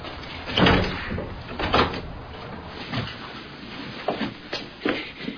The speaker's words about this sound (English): Hi, the door's open. Come on upstairs.